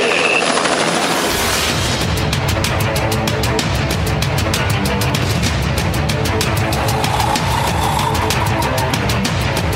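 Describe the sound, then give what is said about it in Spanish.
A helicopter runs loud, its rotor beating in a rapid steady chop over a continuous engine roar that fills the whole clip without letup. “Vayan, por favor. Allá está el helicóptero. Todos se encaminan hacia el helicóptero.”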